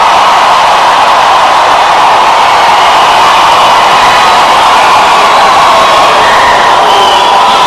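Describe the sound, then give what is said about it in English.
A church audience shouts and cheers together, making noise unto the Lord, in a dense, sustained roar, voices blending into a loud, unbroken wash of noise with scattered whoops rising above it for the full length. “Oh, will you fill this house with noise unto the Lord?”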